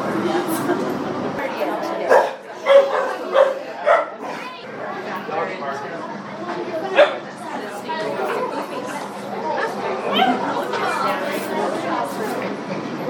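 A puppy barks in a handful of short, yappy bursts, a cluster early on and another a few seconds later, over a steady bed of background chatter from people.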